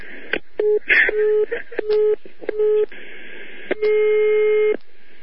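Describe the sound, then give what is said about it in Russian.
A telephone rings in a series of electronic tone bursts of uneven length, some short and some drawn out, heard over a steady hiss like a phone line. “Сейчас опять этот дятел, блядь, звонит.”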